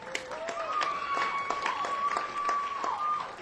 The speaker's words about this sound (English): Thank you. A round of applause for yourselves, Cobb's Comedy Club.